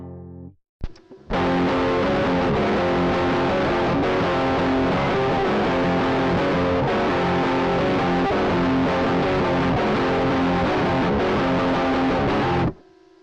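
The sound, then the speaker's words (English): A heavily distorted electric guitar played through a sense amp distortion pedal plays a dense, sustained riff for about twelve seconds, loud, with a gritty fuzz tone and no voices, cutting off abruptly at the end. “Here's just the sense amp.”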